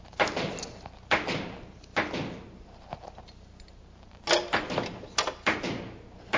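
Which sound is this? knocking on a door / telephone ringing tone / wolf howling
knocking on a door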